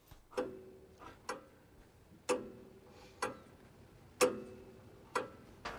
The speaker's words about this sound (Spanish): Alguien dijo que el tic-tac de los relojes parece un ratón que roe el tiempo.